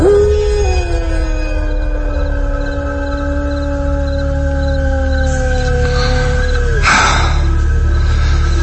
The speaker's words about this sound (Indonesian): Perasaanku mulai muncul tidak enak. Karena saat itu anjing terus menggonggong dan melolong. Sangat mengerikan.